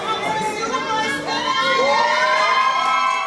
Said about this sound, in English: Tahiti Seymour walked into the arrivals hall to cheers from family, friends, and supporters after months of preparation and a whirlwind week on the Miss Universe stage.